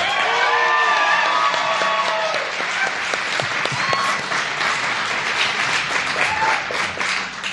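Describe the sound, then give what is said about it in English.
A crowd applauds steadily and loudly for several seconds as author Maureen Johnson is introduced, dense clapping with a few cheers and whistles rising above it, fading slightly toward the end. “Ladies and gentlemen, please give a big round of applause for Maureen Johnson.”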